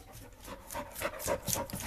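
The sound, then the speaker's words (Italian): A dog breathing normally, quick soft breaths in a steady rhythm, several per second, fairly quiet and with no one talking. “Questo è il normale respiro di Falco.”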